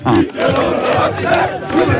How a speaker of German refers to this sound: So klingt der Jubel bei Salzburgs Nachwuchskickern nach dem Einzug ins Halbfinale der UEFA Youth League. Mit 1:0 haben sich die Jungbullen gestern in der Akademie in Liefering im Viertelfinale gegen Olympiakos Piräus durchgesetzt.